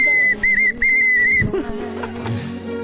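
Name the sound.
whistle being blown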